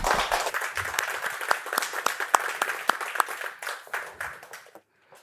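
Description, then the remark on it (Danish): An audience applauds, a dense wash of many hands clapping with a few sharp, louder claps standing out, then the clapping thins and fades away near the end. “Du skal i hvert fald have en stor tillykke igen, og en stor hånd.”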